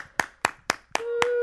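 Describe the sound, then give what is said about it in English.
Five sharp hand claps of looped applause repeat at a steady, even tempo like a short loop, and a sustained mid-pitched tone starts under the last two claps. “Can you loop my applause?”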